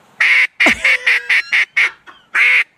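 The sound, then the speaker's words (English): A duck call blown in a regular comeback sequence, like a duck lazily swimming on the water: a long loud quack followed by a rapid run of shorter, descending quacks, then another long note, clear with no talking. “Regular comeback call. Like a duck that's out there on the water swimming around lazy.”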